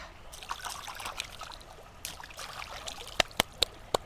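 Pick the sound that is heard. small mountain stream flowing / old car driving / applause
small mountain stream flowing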